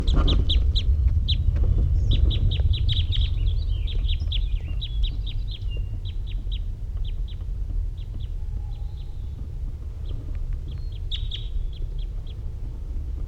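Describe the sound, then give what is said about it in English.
A male wild bird, numbered 327, calls from the trees in quick series of sharp, high notes, pausing between bursts and returning near the end, over a steady low rumble of background noise. “So recording, the male did fly off, and then he came back after I played playbacks, and this is him calling again from the trees.”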